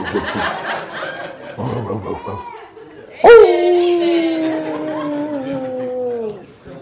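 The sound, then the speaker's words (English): A dog lets out one sharp, loud bark that stretches into a long, wavering howl-like whine lasting a few seconds, following a stretch of murmuring voices and soft laughter. “That's the wrong dog talking, man.”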